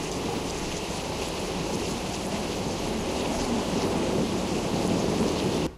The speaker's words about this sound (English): Canyon. This is a canyon. Space. It sounds more like a river, not a canyon.